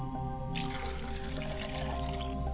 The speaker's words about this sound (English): As we begin to pour this libation, we pour this libation to the South on behalf of those men and women who are struggling in relationships. We pour this libation to them.